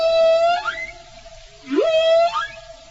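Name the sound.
whale song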